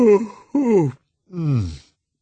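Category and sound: vocal imitation, voice imitating a yawn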